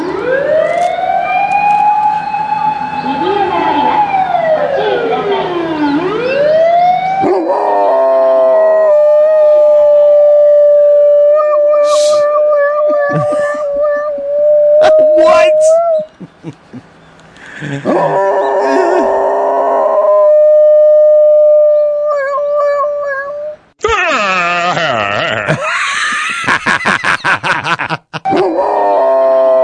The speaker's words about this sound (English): Whenever a fire engine drives by, whenever the dog hears a fire engine, he starts howling and goes into this fire engine mode.